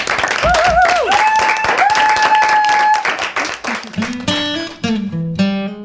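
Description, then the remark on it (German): A crowd applauds loudly and steadily for a few seconds for everyone who was there and helped, with a wavering whistle rising above the clapping, before the applause fades under music that takes over. “Deshalb würde ich sagen, auch mal hinten raus, vielleicht auch nochmal ein kleiner Applaus an alle, die jetzt auch hier waren und da auch mitgeholfen haben.”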